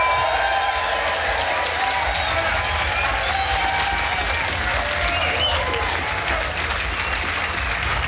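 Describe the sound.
Loud, sustained applause from a large audience, a dense steady wash of clapping that holds at an even level for several seconds, with a few scattered voices and cheers mixed in.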